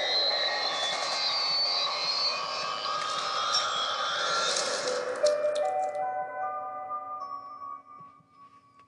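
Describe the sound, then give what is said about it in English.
A steady airplane engine drone fills the cabin, broad and rumbling, then thins into humming tones and fades toward the end. No voices. “They are on board this plane.”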